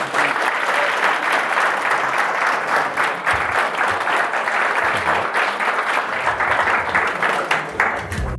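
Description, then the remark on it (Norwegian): Sustained applause from an audience applauding a speaker after a lecture given to a group of general practitioners, a dense crackle of many hands clapping at steady loudness for several seconds, with no voices standing out. “Jeg synes vi skal gi ham en applaus til det.”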